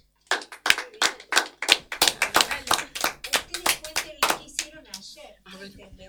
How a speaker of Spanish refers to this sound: Bueno, chicos, le vamos a dar un fuerte aplauso.